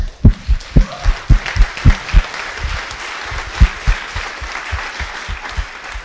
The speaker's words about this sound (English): We had 55 new members since last year, so welcome to all these members, and an applause for them.